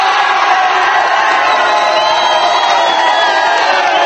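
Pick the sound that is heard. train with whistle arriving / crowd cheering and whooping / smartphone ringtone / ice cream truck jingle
crowd cheering and whooping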